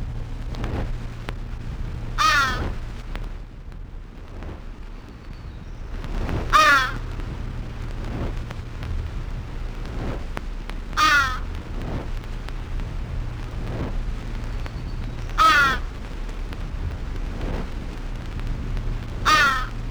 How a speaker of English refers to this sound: Common Crow. One.